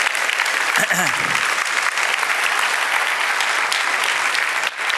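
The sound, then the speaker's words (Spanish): An audience applauds steadily, a dense, even wash of many hands clapping for about five seconds, with a brief voice surfacing near the start beneath the clapping. “Si Dios le ha dado un aplauso a él, que él se lo merece.”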